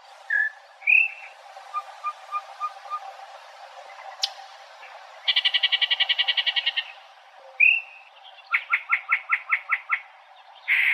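A strange, varied song of a single bird in short snippets: rising whistles, a row of soft evenly spaced notes, then fast buzzy rattles and rhythmic pulsing trills, against faint background hiss.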